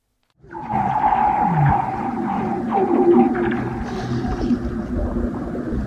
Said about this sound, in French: There, in this village, there in her house, in front of her house, a bus passes by. It's raining.